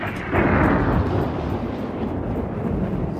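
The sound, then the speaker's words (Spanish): A deep, sustained rumble of thunder from a strong storm rolls in after a brief quiet moment and stays loud and heavy throughout, a broad low roar, with no voices. “Parece que sí será una tormenta fuerte.”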